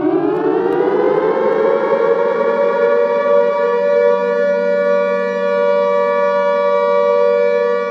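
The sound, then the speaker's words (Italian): A deep, monotonous, siren-like howl rises in the silence of the night and drones continuously at high volume, its tone rising slightly at the start and then holding flat throughout, with no voices. “A quel punto udirono un suono profondo e monotono levarsi nel silenzio della notte. Sembrava una sirena.”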